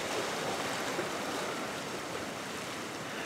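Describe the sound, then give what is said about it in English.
Pacific Ocean surf along the shore by Westcliff Drive in Santa Cruz, California, just before dawn in clear air, fills the air with a steady, broad rushing roar, continuous and fairly even in loudness, with no voices and no distinct individual wave crashes standing out. “taking her daily walk along the ocean near her home in Santa Cruz, California”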